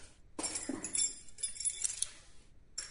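Keys jangle and clink in a quick, bright metallic burst, with a short rattle as they are handed over, before falling quiet.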